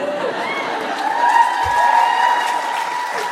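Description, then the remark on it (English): An audience at a comics panel claps steadily for the announcement of the Vertigo Comics book Hexwives, a dense wash of many hands with a few cheers and raised voices mixed in, holding at a fairly loud, even level throughout. “You're right to applaud.”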